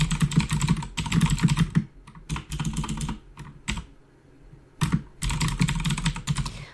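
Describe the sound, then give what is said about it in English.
Rapid typing on a computer keyboard, clattering in bursts with short pauses between, including a longer quiet gap midway before the keystrokes resume steadily. “This is gonna be a really boring audio, but I mean, if you need typing sounds and rambling sounds in the background while you do something else, by all means.”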